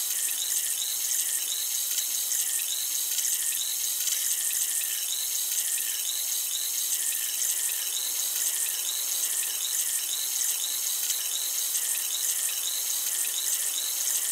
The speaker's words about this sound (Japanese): タンタンを用いた耳掃除をしております。この耳で弾けるシュワシュワとした音と感覚が心地いいですよね。